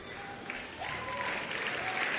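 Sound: audience clapping hands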